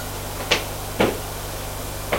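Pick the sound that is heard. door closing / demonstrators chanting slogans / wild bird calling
door closing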